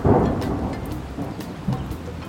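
Steady rain patters down while a low rumble of thunder rolls through, loudest at the start and swelling again briefly near the end, with no voices present.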